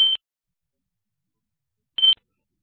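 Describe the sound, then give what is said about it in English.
Two short, shrill electronic beeps from a fire alarm, about two seconds apart, loud and clear with silence between them and no voices. “Sorry, I've got a fire alarm in the background.”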